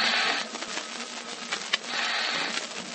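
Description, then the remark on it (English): A submarine snorkel valve makes a harsh, steady mechanical rushing and rattling that eases and then swells again, with one sharp click partway through. No voices are heard. “That's the valve on the snorkel.”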